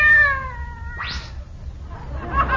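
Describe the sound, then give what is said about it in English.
A cat meows: a steady, drawn-out tonal cry followed by a quick rising squeal, over a low rumbling background with some faint scratchy noise at the end. “If he heard a pussycat roar, it would scare his pants off.”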